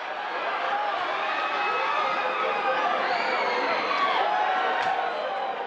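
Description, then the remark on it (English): A dense, steady roar of a large racetrack crowd cheering and shouting together as the horses come to the finish of a race. It is loud and sustained throughout, with many overlapping voices and no pauses. “But people have a stake in there, and it's this sort of momentary thrill, and of course it reaches this crescendo when the horses come, especially if it's a fast race where there's a long shot involved, and everyone's cheering.”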